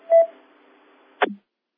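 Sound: telephone tones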